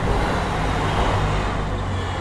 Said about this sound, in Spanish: La mañana barcelonesa suena ajetreada y ruidosa. Por la diagonal hay autobuses y furgonetas, coches y motos. Muchas scooters, para ser exactos. Pero también hay bicicletas eléctricas, y patinetes eléctricos, y patinetes de los otros